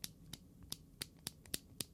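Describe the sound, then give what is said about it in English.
Sharp, bright plastic clicks snap repeatedly at an uneven pace, about eight in two seconds, as the lid of a new AirPods case is flicked shut again and again over faint background hiss. “Anyway, what I was thinking is if you had a WWDC-sized crowd of people, all of whom have the new AirPod case, and you ask them to all do...”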